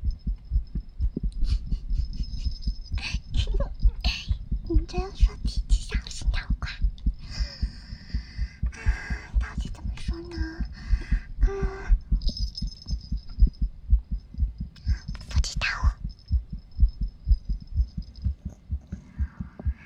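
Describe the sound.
A rapid heartbeat thuds steadily throughout, a dense low throbbing pulse, while faint whispery voices and soft rustling noises drift in and out above it.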